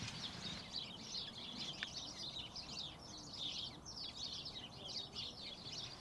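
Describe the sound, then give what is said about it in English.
A flock of house sparrows chatters nonstop from a tightly cut, densely packed hedge at a farm, a dense overlapping jumble of quick chirps over a low outdoor rumble. “That lovely gregarious little chatter.”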